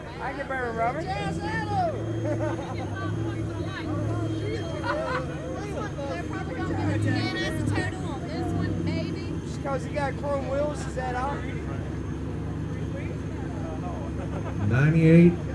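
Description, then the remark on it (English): A car engine rumbles low and steady beneath lively crowd chatter at a judged car event, then grows louder near the end as another car, a Midnight Black one, rolls in. “20 points for the Camaro, and here comes another one.”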